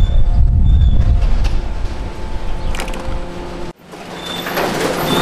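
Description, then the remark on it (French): A loud bag-opening machine at a recycling sorting plant for door-to-door selective collection runs steadily, opening about 95% of the bags, with heavy low rumbling, metallic grinding and faint whining tones. The noise briefly cuts out near the end, then resumes. No one speaks. “Ici, on est dans le domaine de l'ouvreur de sacs. Hein. C'est une machine qui nous permet de nous ouvrir, on va dire, 95% des sacs.”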